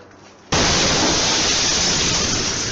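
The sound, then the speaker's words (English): An explosion's shock wave, reaching the surface of Earth, hits abruptly after a quiet moment, bursting into a loud, harsh, rumbling roar that stays intense and unbroken without fading. No voices. “Did you hear that big boom? It like broke. So that was the shock wave from the explosion when it exploded.”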